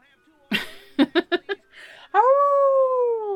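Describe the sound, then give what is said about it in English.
A person's voice imitates a dog howling, a long, steady, loud tone held for over a second, preceded by a quick series of short yelping or chuckling bursts. “I did that for you. I don't howl for anyone else.”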